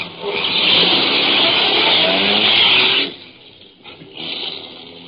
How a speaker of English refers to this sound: I got into my car and drove away, but not too far away. Just far enough to find a place where I could conceal my car from view.